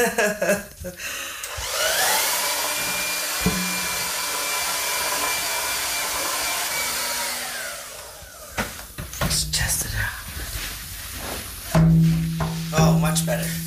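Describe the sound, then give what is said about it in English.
A hair dryer whirs up and blows steadily with a rushing, whining hum for about six seconds, then shuts off, followed by clattering, handling noises and muffled voices. “It's like, oh my god, it takes all so long to get the chickens in a row, and we finally figured out the hair dryer works the best.”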